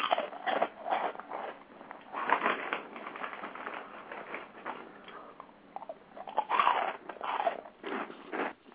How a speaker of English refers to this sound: I don't think you're loud enough. Crunch louder. There, not loud enough for you. No, louder.